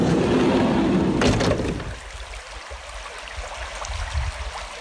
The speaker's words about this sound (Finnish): Mutta täällä ollaan Suomen Lapissa, Ounasjoen rannalla. Koski kuohuaa tuossa. Ei kuulu ihan tänne saakka tuo kuohunta, mutta kuohuaa se silti.